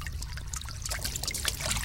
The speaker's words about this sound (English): The water seeps from the rocks themselves.